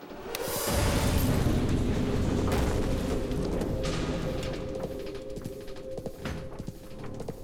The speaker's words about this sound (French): Ils ont placé des sacs de jute sur les explosifs. C'était non seulement pour étouffer le bruit, mais aussi pour diriger l'explosion vers la chambre forte. La diriger vers le béton, comme prévu, plutôt que vers eux.